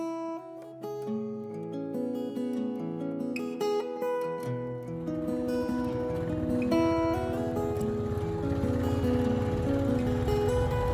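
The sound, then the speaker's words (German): A small Indian motorcycle carrying a passenger revs and drops through several pitch changes, then settles into a steady, rattling drone as it bumps along pothole-filled dirt field tracks, up and down hills. No one speaks. “Ich muss mich gut festhalten auf dem Sozius-Sitz des kleinen indischen Motorrads. Es kämpft sich im Schlagloch-Slalom über Feldwege, die für Autos unpassierbar wären.”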